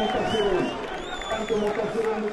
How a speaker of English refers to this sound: Back at Marzouki's headquarters, the crowd went wild when he appeared on the balcony above.